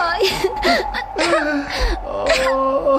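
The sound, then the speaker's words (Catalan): Wavering whimpers and sobbing cries come in short bursts, broken up by sharp breathy catches that sound like sneezes, as if a single voice is weeping and sneezing at once, crying from sadness and sneezing from the freezing cold of the snowy steppe. “plores o esternudes? Ploro i esternudo.”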